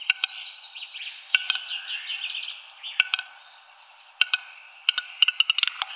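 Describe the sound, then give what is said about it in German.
A songbird sings alone, mixing sharp, dry clacking notes like wooden sticks struck together with rapid twittering runs between them, the clacks coming in scattered bursts and quick clusters. “Also erstmal dieses Luchsende und dann dieses Zwitschernde dazwischen. Ja, also es klingt eigentlich wie Hölzer, die aneinander geschlagen werden.”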